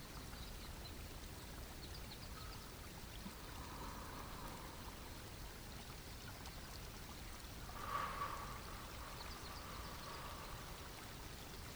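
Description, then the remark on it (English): Water burbles steadily in a small spring-fed stream, a continuous bubbling wash with a brief brighter gurgle near the end. No voices, just the flowing water. “Rise up again to standing and notice that you hear the sound of water burbling.”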